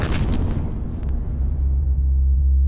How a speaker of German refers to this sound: 18. September 1931. Eine Bombe explodiert in Nordchina. Es scheint klar, ein chinesischer Anschlag auf die von Japan verwaltete und durch japanische Truppen beschützte südmandschurische Eisenbahn.